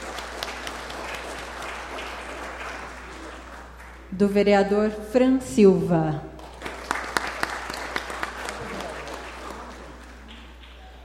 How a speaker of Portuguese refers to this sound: O cerimonial gostaria de destacar e agradecer a presença do vereador Samuel Alves. A salva de palmas.